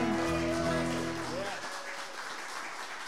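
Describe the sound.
An audience breaks into steady applause, a dense wash of clapping that rises out of a brief voiced sound at the start and carries on evenly to the end.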